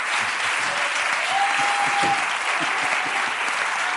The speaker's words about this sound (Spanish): Fuerte aplauso para